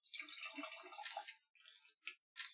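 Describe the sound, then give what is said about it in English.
Cider from Far From the Tree, made in Salem, Massachusetts, from apple with green peppers, jalapenos and kiwi, pours into a glass with a steady, bright splashing gurgle for just over a second, then quieter fizzing and a couple of short drips trail off. No one speaks. “Yep, it's cider from Far From the Tree.”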